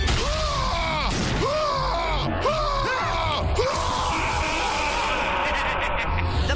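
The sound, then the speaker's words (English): A head that is always screaming lets out a run of strained, warbling screams, about five in quick succession, loud, before dissolving into a harsh, noisy roar that carries on to the end. “Here, have a head that's always screaming.”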